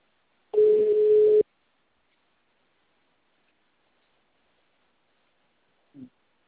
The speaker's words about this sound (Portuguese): O telefone tá certo, tá chamando.